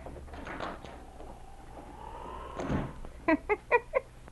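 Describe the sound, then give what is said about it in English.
A cabin door opens as someone enters the cabin, a long, faint creak that ends in a soft wooden thump, followed by four quick, squeaky, pitched sounds in a steady rhythm. “several moments later when the door opened”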